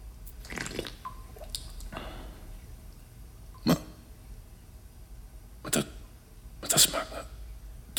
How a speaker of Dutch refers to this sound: Oh, een eikenhouten vat van minstens 3000 liter. Met een kraan die druppelt.